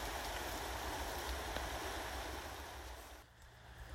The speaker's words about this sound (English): I maybe shouldn't say this too loudly, but the rain seems to be abating ever so slightly. It's not stair-rodding like it was, it's more of a fine drizzle now.